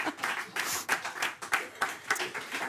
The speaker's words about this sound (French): Eh bien, c'est bien. On peut considérer que c'est une bonne réponse. On l'applaudit.